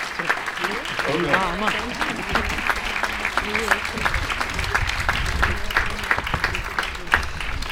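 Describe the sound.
A crowd applauds steadily for several seconds, a dense, even patter of many hands clapping, with a few voices murmuring and calling out beneath it, for the first-prize winner of the sixth Festa Major 2023 poetry contest.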